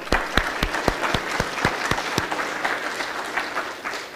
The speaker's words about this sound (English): Well done to everybody. Well done with your patience in between while the technical issues were being sorted out. I think we should give everybody a round of applause.